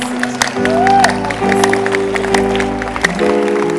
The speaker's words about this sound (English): Can you clap your hands? I can feel. Stand up and clap well.